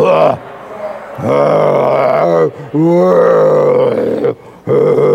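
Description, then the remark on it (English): Children imitate lion roars in loud, sustained voiced growls, several bursts in a row with short breaks between them, their overlapping voices strained and rumbling. “Can we hear some of you lions roaring?”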